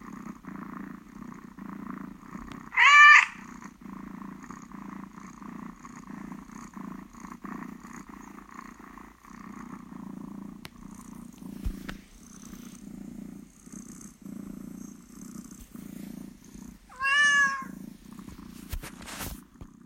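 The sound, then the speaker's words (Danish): A cat purrs steadily for the whole stretch, a low rhythmic rumble, broken twice by a short, loud meow near the start and again near the end; the cat makes these sounds when it wants food or to be petted. “Da jeg hørte det først, så tænkte jeg, det spurgte jeg også om du slog katten. Ja, nej, den var bare, det var sådan dens udtryk, når den ville have mad, eller den ville kæles, eller et eller andet.”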